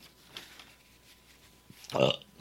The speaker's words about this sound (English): Excuse the burp there.